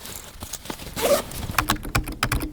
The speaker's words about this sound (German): Und jetzt wieder in der Bibliothek am Campus Lingen.